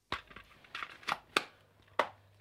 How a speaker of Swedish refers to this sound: Jag gör ett hundöra som hämnd. Ett stort hundöra. Och jag drar med mina vassa naglar längs väcket. Så att det aldrig ska försvinna.